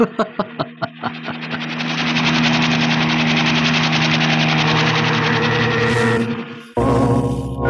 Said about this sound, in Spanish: Un helicóptero persiguiéndolos. Es como un halcón tras de su presa.